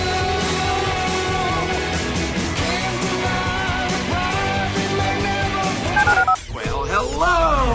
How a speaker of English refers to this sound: Dial the phone.